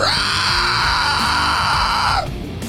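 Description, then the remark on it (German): A giant toad lets out one loud, sustained, harsh scream lasting about two seconds before it cuts off abruptly, alone with no voices. “Die Kröte schreit erneut.”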